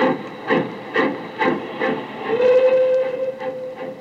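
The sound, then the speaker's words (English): A departing steam train chugs along with steady, rhythmic chuffs, and a brief, steady whistle sounds partway through. The engine is moderately loud, with no voices. “I stood there watching the red light of his train disappear.”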